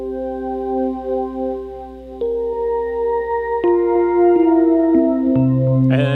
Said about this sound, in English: but this Canyon here I added, I've got like extra space here. So sometimes I'll just switch this pedal out, but right now it's making some like shimmery sounds for me.